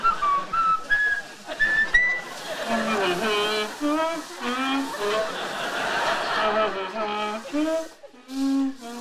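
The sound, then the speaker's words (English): Raj whistles a bouncy tune in a kitchen while he, Howard and Stuart mop, scrub and wipe, clear rising notes at first, then joined by other voices singing along in a lively, cheerful chorus. “Howard, Raj, and Stuart are in the kitchen, mopping, scrubbing, and wiping, when Raj starts to whistle.”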